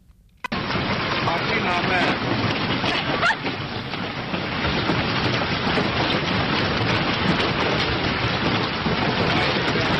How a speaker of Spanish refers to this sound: Yo espero que no traiga granizo como el que se ha podido vivir y sufrir, porque desde luego ha habido muchísimos daños en Rumanía. Un granizo tremendo. Lo escuchamos primero, cómo era el impacto del granizo.